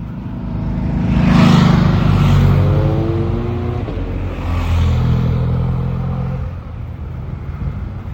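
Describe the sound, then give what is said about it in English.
A group of motorbikes roars past on a climb, engines revving loudly as they approach, with two swells of noise before fading away. “Completely obliterated by the occasional group of motorbikes.”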